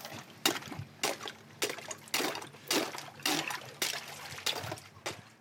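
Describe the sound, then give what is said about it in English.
Repeated sharp cracks and crunches of ice being broken on a freezing pond, about a dozen in an irregular rhythm, mixed with splashing and trickling of freezing water as it's scooped into a cup to catch algae. No talking. “But first thing we've got to do here is actually break the ice.”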